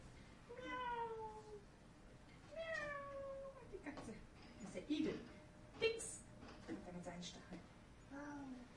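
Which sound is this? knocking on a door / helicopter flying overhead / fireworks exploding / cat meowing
cat meowing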